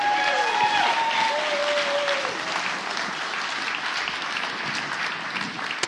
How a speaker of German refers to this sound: Ihr Kinder, ich glaube, ihr habt das ganz toll gemacht und ich finde, da können wir noch mal einen ganz, ganz fetten Applaus für die Kinder geben.